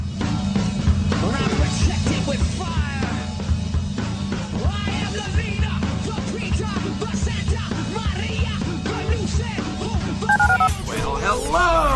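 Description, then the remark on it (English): Telephone keypad dialing tones beep in quick succession amid a dense, busy jingle of music and voice-like sounds, with a run of bright pitched tones near the end, in a promo for calling the HR&P listener line on ESPN 97.5 radio. “Dial the phone.”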